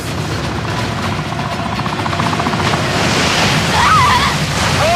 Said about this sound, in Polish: Ale wielka fala.